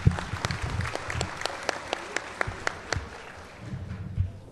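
An audience breaks into applause for a speaker about to begin his talk, a steady patter of many hands clapping at moderate volume for several seconds, with a few louder individual claps standing out before it fades slightly.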